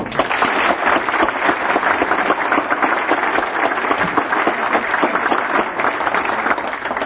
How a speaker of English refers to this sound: Ladies and gentlemen, let's give a nice warm round of applause for Adolph Coors IV.